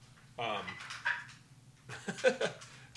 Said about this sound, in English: Yeah, we got some entertainment here. We got a hungry dog. He's angry. He's hangry. Hangry. He's like, I'll eat the plastic. He's hangry.